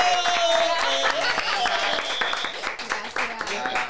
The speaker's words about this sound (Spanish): gente, yo quiero que allá en su casa y acá en el estudio la recibamos con un fuerte aplauso.